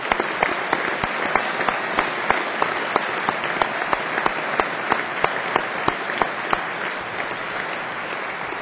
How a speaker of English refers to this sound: I invite the audience to give these graduates a round of applause.